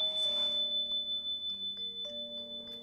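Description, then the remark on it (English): A bell is rung in a ritual to call the spirits, giving a steady, sustained metallic tone that hangs in the air for a few seconds, its pitch shifting slightly as it lingers, with no voices present. “With the ringing of this bell, we call the spirits here and well.”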